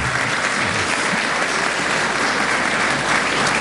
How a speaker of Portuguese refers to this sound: Portanto, eu quero mais uma vez cumprimentar, e sei que virão aplausos